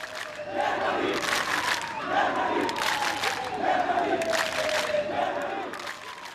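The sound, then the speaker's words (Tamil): A large crowd of hundreds of migrants at Budapest's largest railway station in Hungary chants slogans such as "Germany" and "freedom" and demands tickets, in unison, loud rhythmic shouts rising and falling in repeated bursts roughly every second, with a steady roar of voices underneath throughout. “ஆனால் தங்களுக்கு டிக்கெட்டுகளை தரும்படி கோரி தொடர்ந்தும் குடியேறிகள் கோஷம் எழுப்பினர்.”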